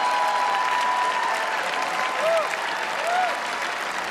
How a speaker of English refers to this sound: The older men applaud.